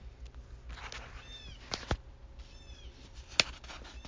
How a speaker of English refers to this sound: I have a bird out my window. He's making some noise, so you'll probably hear that in the background, like a screeching noise.